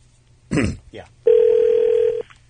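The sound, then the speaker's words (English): A telephone line rings through: one steady electronic tone holds for about a second, loud and clear, preceded by a brief rough burst of noise, like a handset being handled. It is a crank call that gets routed to a programming department. “So we decided to crank call Dave, but Dave doesn't pick up because he didn't recognize the number”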